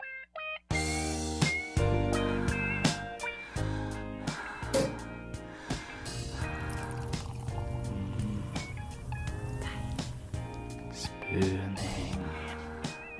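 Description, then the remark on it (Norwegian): A short, upbeat jingle plays for about thirteen seconds, dense and loud from start to finish, with bright stacked notes and punchy accents over a full, steady backing. “Men da kjører vi med jingle.”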